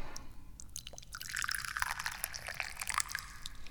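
Dahong Pao tea is poured steadily into a cup, a continuous splashing trickle that starts after a brief quiet moment and carries on to the end, with no one speaking.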